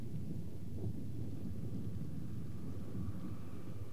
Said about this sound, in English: And it's windy.